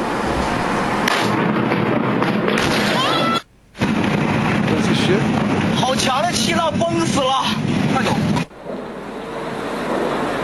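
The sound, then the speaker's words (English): A loud, sustained roaring rumble of an industrial explosion in China captured on a phone, heavy with wind-like distortion and a brief dropout midway, with muffled voices faintly beneath. “Was that an explosion? That was the explosion in China.”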